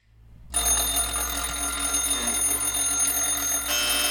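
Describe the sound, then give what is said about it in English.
A loud, continuous electronic ringing, like an alarm clock bell, from a fossil tester, a small black machine with a red light on top that rings when a fossil is real, starts abruptly after a brief moment of near silence and keeps going steadily, harsh, with no voices. “You might think that's an alarm clock, but it's actually a fossil tester that supposedly tells you if a fossil is real or not.”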